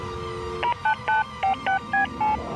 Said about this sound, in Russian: Из моей руки раздается звук? Кому-то звонит. Я даже номер не набрала.